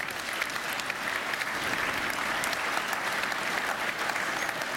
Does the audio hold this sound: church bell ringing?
no